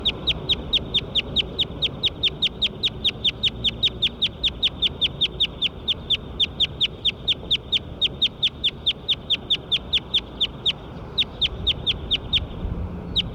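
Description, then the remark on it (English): A bird, recorded as bird 9, calls in a rapid, steady series of high, sharp chirps repeated several times per second throughout, over a low background rumble, with a brief pause near the end. “Recording bird 9 again.”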